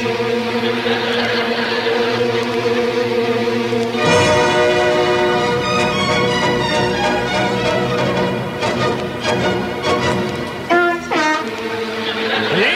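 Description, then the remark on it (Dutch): A car horn honks in long, loud, sustained blasts that shift pitch partway through, with a few shorter honks near the end and a steady rumble underneath, from a car standing in a garage. “Dus mijn vader die staat altijd met de auto in de garage en die toetert om.”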